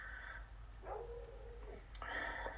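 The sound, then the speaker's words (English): A dog gives a few faint, high-pitched barks and drawn-out whines, one tone sliding downward, over a low steady hum with no one talking. “My dog keeps barking.”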